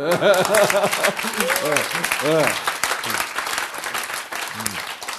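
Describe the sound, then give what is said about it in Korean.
An audience bursts into sustained applause, a dense wash of many hands clapping for about five seconds, with voices calling out and laughing over it as it gradually thins. “아니 하며로 자꾸 가고 있어 박수.”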